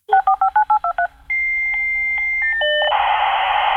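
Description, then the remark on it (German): An old dial-up modem dialing into the internet: a quick run of about eight touch-tone beeps, then a steady high carrier tone with brief chirps before bursting into loud, hissing handshake noise. “Ein altes Modem. Wir haben uns versucht, damals über das Modem ins Internet einzuwählen.”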